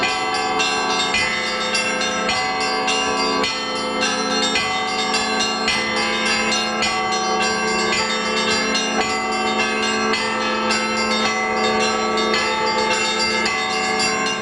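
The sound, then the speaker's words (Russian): Church bells ring out continuously in a dense, layered peal, many bells of different pitches struck in overlapping rhythms, loud with rich lingering overtones and no voices. “А в Самаре для продвижения и развития колокольного звона фестивали проходят каждый месяц.”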